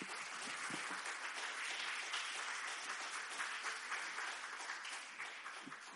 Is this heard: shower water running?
no